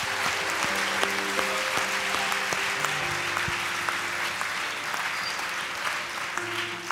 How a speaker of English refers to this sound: Now lift both hands and give him a hand clap.